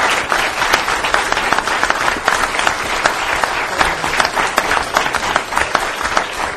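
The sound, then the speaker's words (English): A large audience applauds steadily, a dense wash of many hands clapping at once, loud and sustained without pause for several seconds. “Applaud this guy.”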